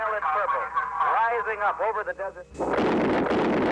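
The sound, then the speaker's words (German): A voice talks briefly, then the sudden, loud, dull roar of a nuclear explosion's sound wave bursts in as a giant cloud rises, a broad rumbling blast that carries on to the end. “There comes the sound wave.”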